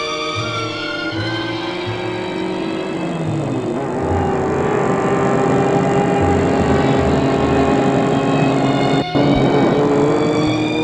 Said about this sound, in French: Après avoir sonné à l'interphone, il entre dans la propriété avec la voiture.